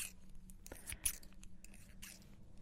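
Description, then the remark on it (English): An ordinary pair of scissors snips several times, giving quiet, crisp metallic clicks in an irregular rhythm over a soft background hum. No one speaks. “We've got an ordinary pair of scissors. Now, this can be used as a trigger or to open all the Amazon Prime packages that you're getting in the mail.”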